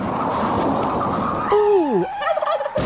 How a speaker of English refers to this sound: Ooh! Ouch! Was that a big bird?